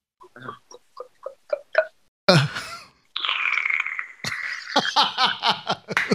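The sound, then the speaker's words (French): Slurping a cocktail through a straw in a small restaurant: a few short sucks, then a longer gurgling draw and a run of bubbly, sputtering pulls as the drink runs low. No one speaks. “On est en train de se siroter un petit cocktail. Mais attention, un cocktail à la paille.”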